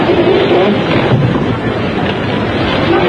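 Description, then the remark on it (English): A loud, continuous roar of floodwater from a burst dam rushing down the channel of the Red River and striking the bridge at Riverside, with turbulent surging and crashing, dense, with no voices present. “the dam burst and the flood released rushed into the channel of the Red River.”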